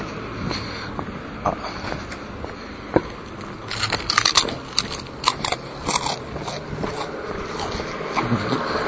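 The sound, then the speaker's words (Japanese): Crunching and chewing of a crispy small-fish-and-almond snack made by Iwatsuka Seika, eaten while walking beside a main road in the daytime, with sharp irregular crackles over a steady wash of traffic and engine noise outdoors. “せんべいの音よりも多分エンジン音の方が大きいですね。”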